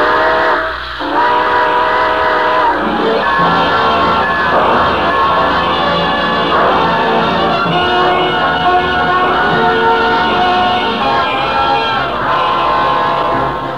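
A steam train pulls out of a station, its whistle sounding loud and sustained over the rumble and clatter of the cars, with a faint murmur of a crowd in the background.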